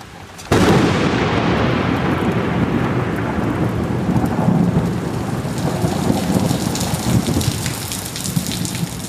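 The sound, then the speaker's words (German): A heavy, torrential rain downpour in Recife, Brazil, suddenly bursts in after a brief quiet moment, then pours steadily as a dense, loud hiss with a deep rumble beneath it, no voices. “Beinahe täglich gibt es sintflutartige Regengüsse, aus heiterem Himmel oft.”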